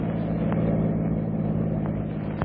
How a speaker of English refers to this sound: And on this September day, as they thread their way through New York City traffic after a long drive from the country, Pamela looks forward to the humble joys of home.